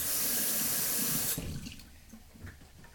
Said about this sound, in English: Right. So just washing the lettuce now.